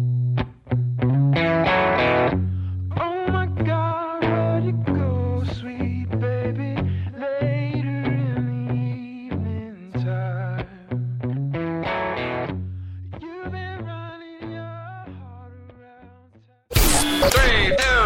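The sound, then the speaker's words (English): A short hip hop station bumper for Team Awesome Morning Party on Static Radio: a punchy, heavily effected beat with a thick bass line and distorted synth notes, cut off near the end by a loud burst of static-like noise. “You know what that hip hop means.”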